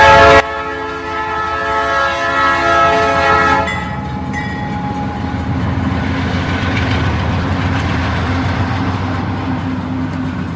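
A loud train horn blares for several seconds, then cuts off, leaving the steady rumble and clatter of the passing train rolling on underneath.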